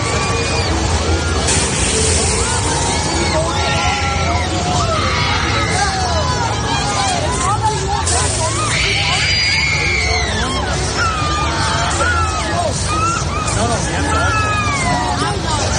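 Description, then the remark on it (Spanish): A crowd of riders screams almost nonstop on the Siren's Curse roller coaster in Ohio, whose cars tilt from horizontal to vertical. Many overlapping shrieks rise and fall over a loud rushing rumble, intense throughout. “Porque hay que ver qué gritos.”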